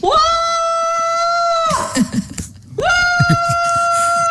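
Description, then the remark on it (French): A man lets out two long, loud, joyful cries of joy while painting, each swooping up and holding a high, steady pitch, with a brief pause of breathy, rustling noise in between. “Et pour finir, il pousse un cri de joie, parce que les cris, oui, c'est aussi de la joie, du bonheur.”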